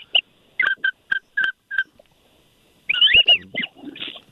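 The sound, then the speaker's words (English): Wigeon whistle calls from ducks during a duck hunt: a string of short, clear, two-toned whistles at a steady pace, then a louder burst of overlapping whistled notes, with no talking. “Oh, that sounds like a good whistle there.”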